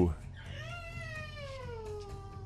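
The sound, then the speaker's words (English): A cat named Bruno, in the background, lets out one long, drawn-out howl that starts high and slowly slides downward in pitch, sustained for about two seconds over a low, steady background rumble. “Well, that's Bruno howling in the background.”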